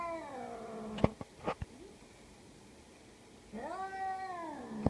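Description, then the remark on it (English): A cat yowls in two long, drawn-out wails, separated by a few sharp knocks and a brief pause, moderately loud with no talking. “This is how much Ricky hates that cat.”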